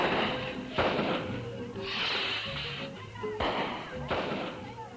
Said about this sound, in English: There was a loud report, followed by a series of staccato bangs as the rocket completed its explosive arc across the Salvadorian sky.